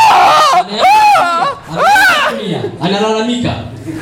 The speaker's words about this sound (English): Now, this little girl picked him up. A big man. And he's yelling.